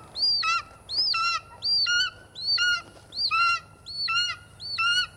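An eagle calls six times in steady succession, each a high, piercing whistle breaking into quick stuttering notes that slide downward. The calls are fairly loud, with no voices.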